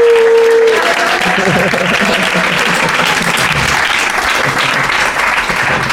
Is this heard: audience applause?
yes